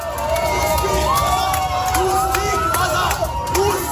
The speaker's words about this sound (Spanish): Rusos fuera, gritaban los ciudadanos húngaros en las calles.